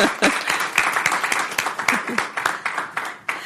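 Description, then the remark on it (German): An audience at a sermon claps steadily for a guest about to be interviewed, many hands producing a dense, bright patter with sharp individual claps standing out throughout, loud and continuous without a break. “Und wenn ihr schon klatscht, dann klatscht doch gleich für sie auch nochmal mit.”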